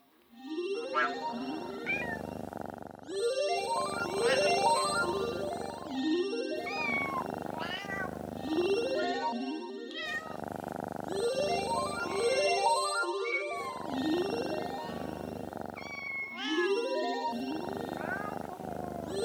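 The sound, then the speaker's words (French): A cat meows over and over in loud bursts, each cry sliding up and down in pitch, repeating in a steady rhythm for about twenty seconds with short gaps between. “Regarde Lola, ton chat est là.”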